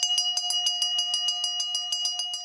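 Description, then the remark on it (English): A bell rings rapidly and continuously at the Fayetteville Square during the Fayetteville Farmers Market on a Saturday. It is struck over and over in a steady, fast rhythm with a bright, sustained metallic tone, and no one is talking. “Located a little further to the west is the Fayetteville Square, where on some Saturdays, passers-by may hear another ringing bell that signifies hope.”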